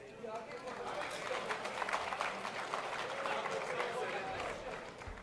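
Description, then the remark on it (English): A large crowd boos loudly and steadily at a man on stage as he walks off, a dense roar of jeering voices mixed with scattered clapping and shouts that holds for several seconds without letting up. “But listen to a larger context as he's booed and he walks off stage.”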